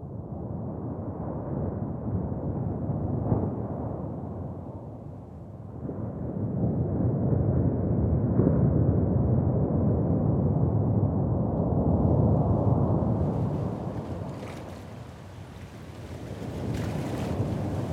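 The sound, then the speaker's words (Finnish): A steady, low roar of sea waves swells and fades in broad surges, with wind rushing over it and a hissier, brighter wash building toward the end. No voices. “Ja jäisikö meren kohina korviin soimaan, kuten simpukkaan.”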